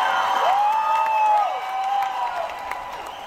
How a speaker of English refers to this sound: Like, all right, I want to thank you so much, everybody, for being here. What a crowd we got today. Let's hear about this next round of applause.